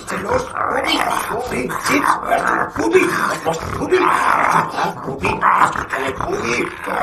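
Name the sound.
dog barking and growling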